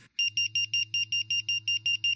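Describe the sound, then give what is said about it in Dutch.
A firefighter's pager alarm receiver goes off, signalled by the dispatch centre to call out firefighters: a loud, rapid string of shrill electronic beeps pulsing about five times per second over a steady low hum, with no voices. “En waar je ook bent in de buurt, jouw pieper gaat dan af.”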